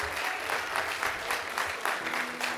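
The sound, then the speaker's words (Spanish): An audience at a religious gathering claps for a man retired from the police in Puerto Rico who flew for the first time to attend. It is a dense patter of many hands at a fairly loud, even level for a few seconds, with no voices standing out. “Y eso merece un aplauso.”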